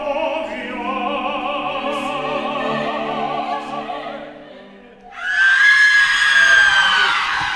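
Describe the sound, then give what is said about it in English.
In a stage performance of the opera Carmen, a woman screams loudly near the end, a sustained, piercing high cry that cuts in after several seconds of many voices holding steady sung notes together. “I just heard a woman screaming, and then a bunch of women ran on stage.”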